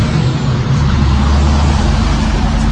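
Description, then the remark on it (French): A small electric Club Car utility cart, driven by a gloved man collecting the trash, drives by, its steady low motor hum and tire rumble filling the moment with a constant, fairly loud drone and no voices. “Alors là, c'est le gars le plus précieux qui est en train de ramasser les poubelles.”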